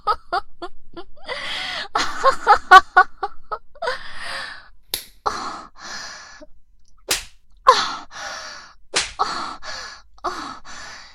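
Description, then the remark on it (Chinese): Several sharp hand slaps on bare buttocks crack out at irregular intervals, surrounded by breathy gasps, sighs and whimpering vocal sounds, with no clear speech. “小鸡巴屌丝在生气地抽我的屁股，想让我给你的小鸡鸡道歉。”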